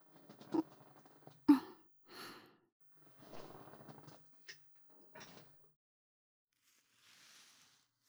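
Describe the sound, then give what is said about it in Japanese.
A chair backrest being reclined: a couple of sharp clunks, then drawn-out creaking and sliding noises with a few small clicks, moderately quiet, ending in a faint soft rustle. “ではまた椅子の背もたれ倒させていただきますね。”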